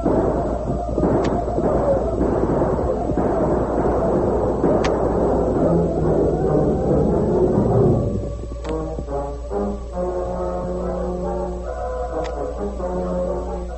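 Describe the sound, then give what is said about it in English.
Scattered gunshots crack over a dense, roaring rumble of battle noise as 20 or more men gallop into a village with guns firing, giving way partway through to dramatic orchestral music, with occasional shots still punctuating it. “Hiram Lynn, leading 20 or more men, galloped into the village with guns in action.”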